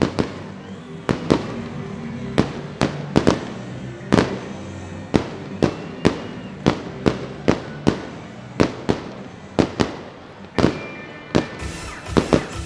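Fireworks explode over Sutter Health Park after the Sacramento River Cats' 6–0 final against the Reno Aces, in a rapid, irregular series of sharp booms and cracks, about twenty bursts, loud and punchy against a steady rumbling crowd-like background.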